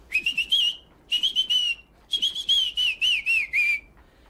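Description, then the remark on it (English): Someone whistles an operatic air, a clear, steady melody in three phrases with brief pauses between them, sliding gently downward at the end, with no talking. “Don't you think it would sound better if you whistled it a little louder?”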